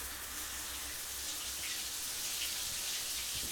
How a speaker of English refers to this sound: Now you get in the shower. You have yourself a real good hot shower until you get your warmth back up, right?